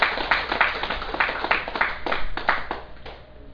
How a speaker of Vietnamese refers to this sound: Xin quý vị vỗ tràng pháo tay.